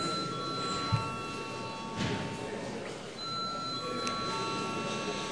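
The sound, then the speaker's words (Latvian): A parliament voting bell, called for before a vote on a bill amending the arms circulation law in its second reading, rings with a steady, high electronic tone and bright overtones, holding for several seconds with a brief dip partway, over a low murmur and a few soft knocks. “Paldies, lūdzu zvanu.”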